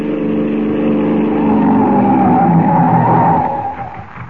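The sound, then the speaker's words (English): A police car roars up at a crossroads in the darkness and skids to a stop, its tires letting out a loud, sustained screech before the noise drops away at the end. “They crouch in the darkness as the car approaches.”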